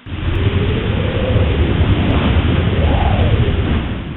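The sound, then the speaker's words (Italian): Loud, continuous hurricane noise with a downpour: deep rolling thunder rumbles beneath a steady roar of wind, sustained for several seconds with a swelling boom near the end, no voices. “I ragazzi si chiamavano fra loro, ma il vento che ruggiva e i boati dei tuoni coprivano completamente le loro voci.”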